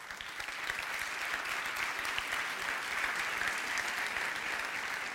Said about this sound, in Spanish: Un aplauso, no aplaudan más, porque esto es como carnaval. Ahí pierdo puntos por tiempo.